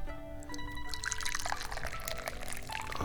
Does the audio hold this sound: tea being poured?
yes